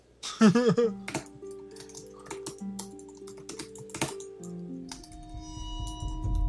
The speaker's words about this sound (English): And then I realize how loud my typing is.